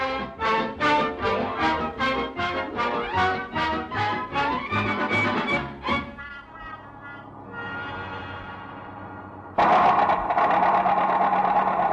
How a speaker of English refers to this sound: Henry, the car. What's the matter with it? I don't know. It just stopped.